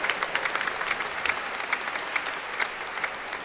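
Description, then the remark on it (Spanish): Steady applause from an audience for Monseñor, the bishop: a dense crackle of many hands clapping continuously at a moderate level with no voices over it. “Démosle un aplauso al querido Monseñor, en gratitud también de mi corazón.”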